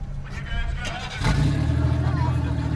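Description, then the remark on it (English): Car engines, started by drivers in helmets after a driving lesson, idle with a loud, low rumble. About halfway through another engine kicks in, and the combined roar grows fuller and more intense, revving steadily. “After the lesson, the ex-couples don their helmets and start their engines.”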